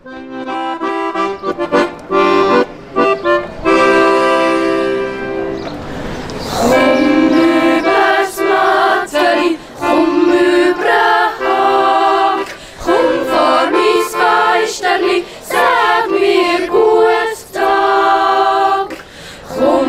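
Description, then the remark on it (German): A young voice yodels while warming up before a competition performance at the Swiss federal yodelling festival (eidgenössisches Jodlerfest) in Zug, holding loud, clear sustained notes and flipping between high and low pitches in short phrases separated by brief pauses. “Und da hören wir jetzt eine ganz junge Stimme beim Einsingen vor dem Wettvortrag.”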